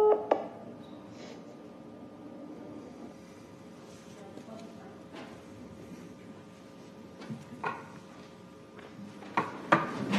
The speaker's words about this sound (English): Was that the natural ending of that conversation? I'm sorry? Was that how that conversation ended? The phone cut off. I could have been because it was in a basement apartment.